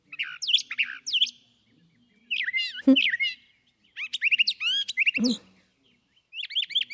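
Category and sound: bird, brown thrasher song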